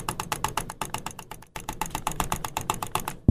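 Rapid computer mouse clicking, a fast, steady stream of sharp clicks at roughly ten per second, fairly loud, with a brief pause midway and no talking; a world-record run of 760 mouse clicks in one minute.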